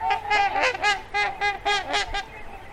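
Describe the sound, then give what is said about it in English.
Trumpeter swans, the world's largest water birds with wingspans up to 9 feet, honk repeatedly in a loud, overlapping chorus of nasal, horn-like calls, about eight or nine strong bursts over a few seconds with no talking. “With up to 9-foot wingspans, trumpeter swans are the world's largest water birds.”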